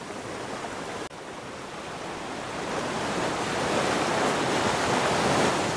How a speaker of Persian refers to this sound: هر صخره‌ای که این موج‌ها به اون می‌خورند شاهد عبور تمدن هاست.